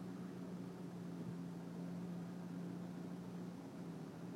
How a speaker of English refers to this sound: This forklift thing is pulling away.